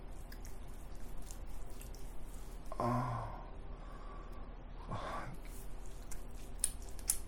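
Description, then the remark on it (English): Soft, wet slick rubbing of a hand stroking a penis coated in baby oil, with a couple of louder squelchy strokes standing out against a steady low background hiss, with no talking. “Can you hear? Fucking hear my fucking hand on my wet cock?”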